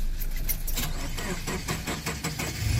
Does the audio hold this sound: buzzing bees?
no